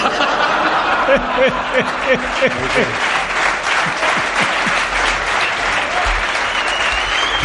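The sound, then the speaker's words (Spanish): A crowd bursts into sustained applause, dense clapping that holds steady for several seconds, with a few scattered laughs and murmurs mixed in. “No entiendo por qué habéis aplaudido eso.”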